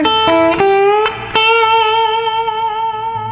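A loud distorted electric guitar note rings out after a few quick picked attacks, sustaining long and steady with a strong upper octave harmonic humming above it, no voices present.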